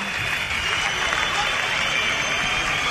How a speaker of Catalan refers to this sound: Ara sí que ens sentim algun de xiuleta. Carme Forcadell, que es col·loca davant del faristol, es col·loca els davant... Algun xiulet, davant de la boca. Algun xiulet, ja, sí.